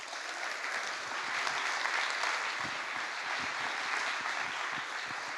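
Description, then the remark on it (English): An evening audience claps steadily and loudly for several seconds to welcome author Harry Nicholas, a dense wash of many hands with no voices rising above it. “Please give me a rapturous round of applause for Harry Nicholas.”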